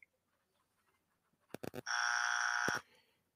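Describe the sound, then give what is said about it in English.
A loud electronic buzzer blares after a few quick clicking taps, holding a steady harsh tone for about a second before cutting off sharply. No one speaks. “But first, a buzzer.”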